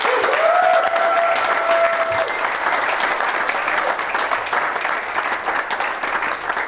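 Steady applause from a crowd fills the whole stretch, dense and fairly loud, with a brief rising whistle-like tone over the start before the clapping carries on alone.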